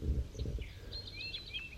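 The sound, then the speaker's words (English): A bird known as 5-3 calls in a quick run of thin, high, whistled chirps, some sliding in pitch, fairly soft over a low rumbling background. “So that's 5-3 calling right there.”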